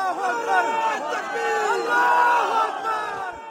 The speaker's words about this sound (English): Through the darkness and forest, the sight the crowds had been hoping, waiting and praying for. Strapped to the cable, the final rescue. Waiting arms and shouts of God is great.